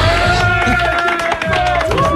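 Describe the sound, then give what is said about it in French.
An audience applauds two women guests loudly and steadily for about two seconds, a dense wash of clapping with some crowd voices and cheering mixed in. “Merci, on vous applaudit encore une fois bien fort toutes les deux!”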